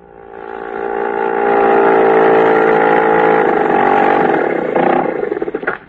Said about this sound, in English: You are at Lake Winnipesaukee. Your outboard motor has just sputtered up to the wharf. Hot and thirsty from the broiling September sun, you step ashore with your meager string of fish.